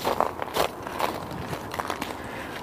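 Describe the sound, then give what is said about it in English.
Footsteps crunch over an icy spot on the walk alongside West 20th in a series of crackly, gritty bursts at an uneven walking pace, fairly faint against a steady background hiss, with no talking. “I don't know if you can hear those ice crunching underfoot or not.”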